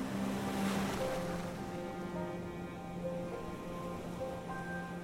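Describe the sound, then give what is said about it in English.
Steady wash of sea surf rolling onto a shore, a continuous broad rushing with no distinct individual breaks, while soft sustained musical tones hum quietly underneath. “Invited to a stag do in Brighton later in the year, he ended up alone on the beach in tears, screaming at the sea.”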